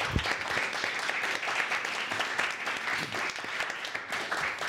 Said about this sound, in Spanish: Perfecto, pues nada, os doy un aplauso yo a vosotros, muchísimas gracias.